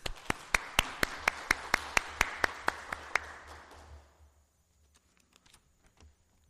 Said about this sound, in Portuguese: Vamos dar uma salva de palmas para o colega vereador, que seja bem-vindo a essa Casa de Leis